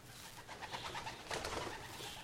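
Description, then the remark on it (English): A flock of pigeons dive-bombing in the evening, with soft cooing and bursts of fluttering, rustling wing noise over a few seconds, fairly quiet, with no one talking. “Oh, I was just dive bombed by a flock of pigeons.”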